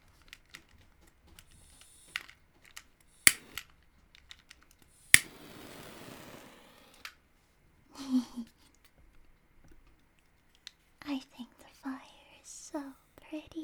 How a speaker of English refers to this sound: Here I have my silly little lighter.